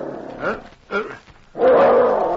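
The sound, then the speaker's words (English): A dog named Danny, warning of a stirring in the store while his master lies on the bunk, gives two short, sharp barks about half a second apart. He then breaks into a loud, sustained, rough growl. No one is speaking. “He sounded a warning, then looked at his master on the bunk. He growled louder.”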